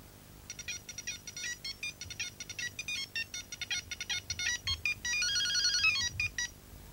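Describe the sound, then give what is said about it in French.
A telephone rings with a bright electronic ringtone, rapid warbling beeps repeating in quick bursts for several seconds, fairly loud, with no one speaking over it. “Ah, Francine, d'où tu téléphones?”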